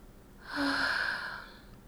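A single long, breathy sniff drawn in through the nose, lasting about a second against a quiet background with no talking.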